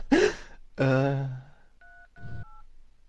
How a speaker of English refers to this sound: the tension I'm building as I retardedly type these numbers into my phone is palpable.